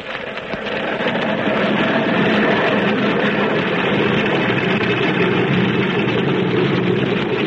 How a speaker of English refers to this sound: As the red flying boat of the Spider, with one motor on fire, comes down on the lake, Jack Armstrong and his amphibian follows him. Jack's plane is just striking the water and taxiing toward the tail of the Spider ship.